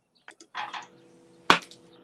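A frog croaks in a few short, raspy bursts, followed by one sharp, loud croak, with quiet pauses between calls and no one talking.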